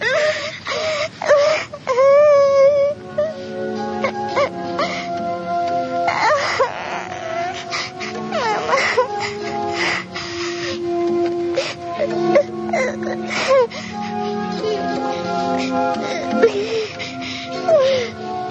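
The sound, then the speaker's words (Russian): A young girl sobs and wails bitterly in an empty bathhouse, lying on a cold bench. Her voice rises in long, quavering cries broken by gasping breaths, loud and continuing without pause for the whole stretch. “Там, упав на холодную полку, среди запахов сажи и веников, она разразилась самым горьким плачем в своей маленькой жизни.”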